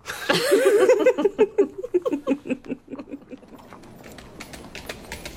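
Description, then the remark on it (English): Horse hooves clip-clop past at a brisk, steady rhythm as the horse nearly runs a person down. The hooves are loud at first, then grow fainter as the animal moves away. “Hey, you get out of the way! That horse near killed me.”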